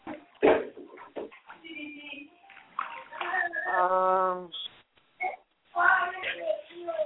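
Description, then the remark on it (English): A dog makes a run of whiny, yelping noises, including one sustained high, wavering whine in the middle, broken by short pauses and scattered sharper bursts. “You and your dog. Lyric, down.”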